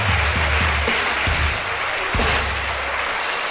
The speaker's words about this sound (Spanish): Hermoso personaje, un aplauso. Famoso ya, te hemos hecho famoso.